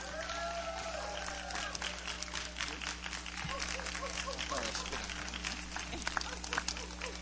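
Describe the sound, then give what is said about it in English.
An audience applauds steadily for the full stretch as the pastor comes up to preach, a dense, even patter of many clapping hands over a low, constant hum, with faint voices mixed in. “Let's all stand to our feet and give her a great big applause as she comes to minister the Word of the Lord tonight.”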